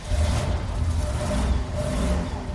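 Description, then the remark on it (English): The engine of a school bus painted black and orange and converted into a tailgating bus in Cleveland rumbles with a heavy, low, continuous drone that holds steady and loud for a few seconds with no voices over it. “bought a school bus, painted it black and orange, and turned it into the ultimate tailgating machine.”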